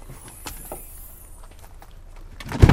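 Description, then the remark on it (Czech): A dog shut inside a car scratches and paws to get out, with irregular muffled scrapes and taps, ending in a louder burst of scrabbling. “tohle hrabání, to je avatar, který se chce dostat”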